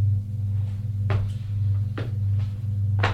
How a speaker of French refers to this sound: Il va ouvrir une porte qui est en face de celle de l'entrée.